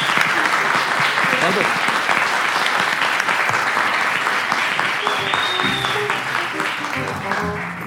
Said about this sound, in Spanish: Un aplauso para los recién casados.